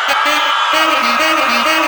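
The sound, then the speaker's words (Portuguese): A crowd at a live music performance lets out a loud, sustained burst of high-pitched shrieks and whoops when the singer asks for a little shriek, many voices screaming together for a couple of seconds without pause. “Quem com o … dá um gritinho”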